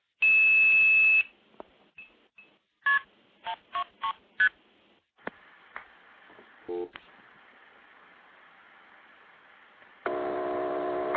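Telephone dialing: a steady tone gives way to a quick run of short, evenly spaced touch-tone beeps and a few clicks, ending in a loud buzzy tone. No one speaks.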